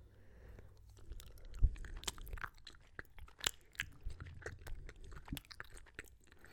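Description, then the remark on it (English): Loud crunching of a cherry Lifesaver hard candy being chewed, with sharp irregular cracks and snaps repeating over several seconds, no one speaking. “Just listen to the sound of my chewing of the Lifesaver.”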